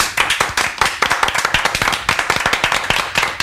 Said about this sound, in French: Une fois n'est pas coutume, je vais demander à tous les gens qui sont autour de la table d'applaudir.